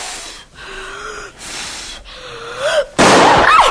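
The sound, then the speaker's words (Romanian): A single sudden, loud gunshot fired at a marten cuts in after a stretch of soft, breathy whistling tones and rings out harshly to the end. “Păi ce să fie? A ieșit jderul și am tras în el.”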